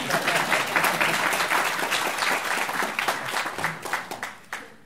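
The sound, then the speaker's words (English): An audience claps steadily, a dense patter of many hands that stays loud for several seconds before thinning out and tapering off at the end. “A round of applause for my assistant.”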